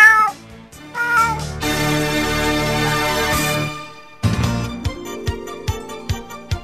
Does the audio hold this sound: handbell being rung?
no